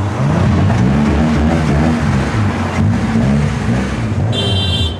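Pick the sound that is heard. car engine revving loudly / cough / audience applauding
car engine revving loudly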